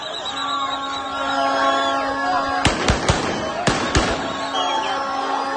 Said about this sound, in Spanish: Hay un montón de escenas en redes de las celebraciones en Gaza, con un montón de niños palestinos en las calles y tiros, porque ya sabes que hay zonas donde se tiene un arma a mano y se celebra con el arma en la mano, lo que sea.